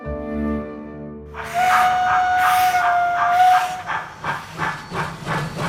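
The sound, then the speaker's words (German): A steam locomotive whistle blows a steady tone for a couple of seconds over loud hissing steam, followed by rhythmic chuffing bursts as the engine pulls away. “Mit der Dampflok.”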